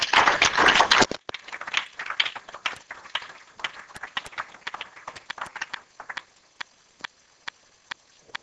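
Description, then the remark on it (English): A crowd bursts into loud, dense applause that quickly thins out into scattered claps, ending with a few slow, isolated claps spaced about half a second apart. The applause is given as a clap offering to the Lord after a prayer. “So would you give the Lord a clap offering?”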